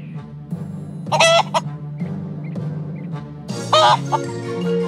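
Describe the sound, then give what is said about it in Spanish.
A hen clucks, with two loud, squawking outbursts separated by softer, scattered clucks, all over a steady low background hum. “Entró en un castillo y vio a un malvado gigante que tenía una gallina que ponía un huevo de oro cada vez que él se lo mandaba.”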